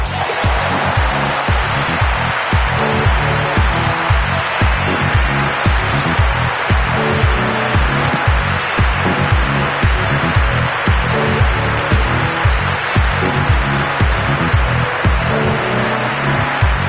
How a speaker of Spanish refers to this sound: Bueno, vamos a presentar a nuestro invitado de hoy. Ha venido para estar solo con nosotros. ¡Aplauso para